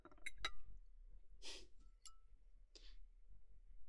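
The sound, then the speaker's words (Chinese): Two small glasses of highland barley liquor clink together in a toast: two quick bright taps, then a single ringing clink a moment later, with a couple of soft breathy rustles in between and no talking. “行行行，那我们干杯好了吧。来，一人一杯。”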